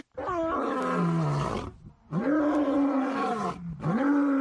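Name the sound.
lion roar sound effect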